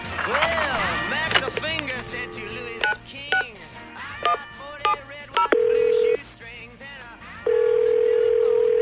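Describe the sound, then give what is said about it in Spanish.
A telephone being dialed as Patty phones her family, a quick run of short keypad beeps, followed by long steady tone bursts from the line, loud, with brief voice-like sounds at the start. “Mamá, voy a sacar un libro de poesía, contó Patty a su familia por teléfono.”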